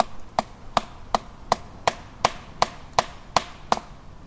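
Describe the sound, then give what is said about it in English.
Ten sharp wooden knocks strike in a steady, even rhythm, each a crisp hollow thock with a quick decay, standing alone with no voices over them. “So we're gonna do some knocking here.”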